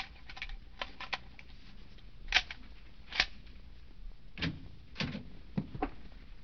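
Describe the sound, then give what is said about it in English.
A door being opened with a pass key: a series of short, sharp clicks and rattles like the key and latch being worked, spaced irregularly over a few seconds, fairly quiet, with no voices. “Open the door.”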